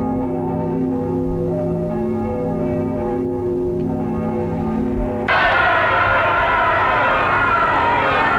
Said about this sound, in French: Des cris d'allégresse.